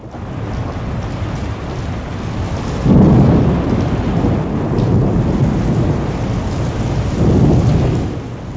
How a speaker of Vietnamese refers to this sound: Nhưng không may cho ngài, hôm ấy trời mưa giông dữ dội suốt ngày do trận bão to đang càn quét vùng cao nguyên.